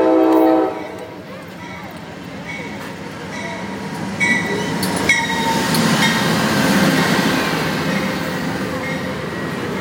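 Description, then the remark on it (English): A passenger train pulls into a station: a short horn blast at the start, then a steady rumble of wheels on rails that swells closer, with occasional metallic squeals and clanks. “This is not our train. This is the next one. Here Here it comes.”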